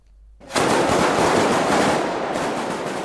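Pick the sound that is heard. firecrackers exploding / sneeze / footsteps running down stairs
firecrackers exploding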